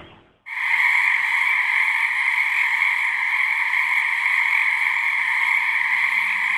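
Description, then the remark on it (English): A dense chorus of frogs singing in a pond in Kingston, many voices blending into a loud, continuous trilling drone that kicks in abruptly after a brief quieter moment and holds steady throughout. “It's the sound of frogs singing in a pond in Kingston, and that's a sure sign that spring is fast approaching.”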